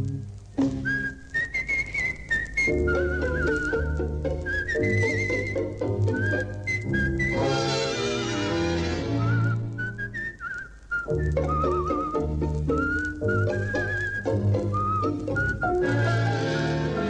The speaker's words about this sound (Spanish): y un reo meditabundo va silbando una canción.